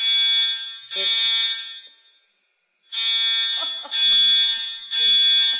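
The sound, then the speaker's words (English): A loud, high-pitched fire alarm blares in long pulses during an alarm test, not a fire drill, cutting out for about a second mid-clip before resuming; faint voices murmur underneath. “Arms are being tested. It's not a fire drill.”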